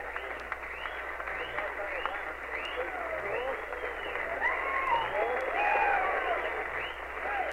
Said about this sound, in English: The crowd is standing and applauding the President's address, and he's waving back at them.